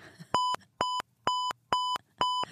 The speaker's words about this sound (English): They largely ignored me until they said, hello, are you ready to check out? And then they beep, beep, beep.